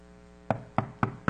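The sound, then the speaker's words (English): Four firm knocks on a door at an even, steady pace, distinct, over a faint low background hum with no voices. “He's knocking on your heart, man.”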